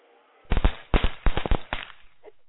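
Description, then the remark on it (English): A rapid burst of firecrackers: sharp, loud pops crackling in quick irregular succession for about a second and a half, then fading out into quiet. “How you like that Firecrackers effect?”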